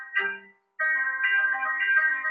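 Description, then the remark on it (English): A phone wake-up alarm plays a song by a pianist: a bright, tinny melody, a short phrase, a brief pause, then the tune continuing steadily at moderate volume with no one talking. “So I wake up to that and then my phone says, Good Morning Beautiful.”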